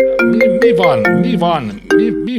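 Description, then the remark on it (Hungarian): A phone rings for an incoming call with a loud electronic ringtone, a looping melody of bright sustained tones and rhythmic bursts, with a voice-like musical line woven through it. “Elnézést, hogy telefonálással zavarom a telefonálást.”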